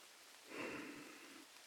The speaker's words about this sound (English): I shouldn't set this precedent, but it's raining outside. And it looks like you walked through it once already.